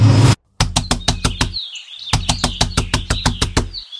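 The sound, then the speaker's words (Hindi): Loud, rapid banging on a door early in the morning: a quick run of about six heavy thuds, a brief pause, then a longer insistent burst of a dozen more, with faint birdsong chirping underneath. “इतनी सुबह सुबह कौन इतनी जोर से दरवाजा पीट रहा है?”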